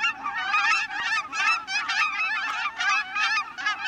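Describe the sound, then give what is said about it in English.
A flock of cackling geese honks continuously, high-pitched yelping calls overlapping in a dense, chattering chorus with no pauses and no voices. “Cackling geese may look a lot like Canada geese, but their slighter build and shorter beaks give them away as a distinct species.”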